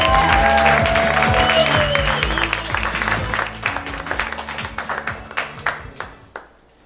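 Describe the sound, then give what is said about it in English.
An audience at a storytelling show in Los Angeles applauds, a dense wash of clapping that stays strong at first, then thins into scattered individual claps and fades out. A few cheers and voices mix in early on. “Applause, applause.”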